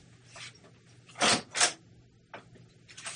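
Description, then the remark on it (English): A door being opened for someone at it, heard as a pair of short rattling, clattering bursts in quick succession with a few fainter knocks around them, fairly quiet. “There's someone on the door.”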